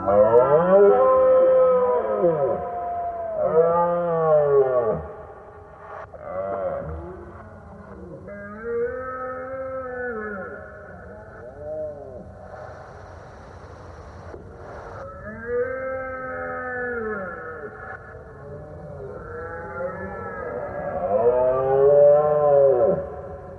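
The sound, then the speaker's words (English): Processed red deer stag roars during the rut: a steady run of deep, bellowing calls that swoop up and down in pitch, overlapping and repeating throughout, altered to sound even weirder, with a warped, eerie tone. No one speaks. “I think that sound of the roaring deer”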